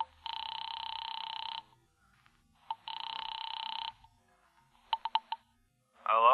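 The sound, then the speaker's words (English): A telephone line rings twice with long, steady buzzing rings separated by a pause as a man calls a bookie joint to place a bet, followed by a few quick electronic pips and a brief warbling sound as the call connects. “I picked up the phone to call a bookie joint run by a guy named Joey Gore.”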